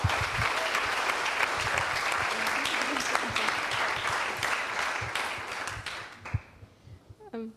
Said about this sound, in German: Ein großer Applaus für diese Gruppe, bitte.